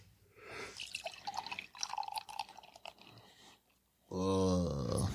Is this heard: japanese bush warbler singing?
no